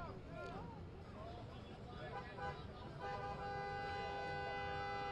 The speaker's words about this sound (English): Yeah, the buzzer sound. It's just, I'm not used to it. Yup. Yeah. It's just like, it's very irritating, isn't it?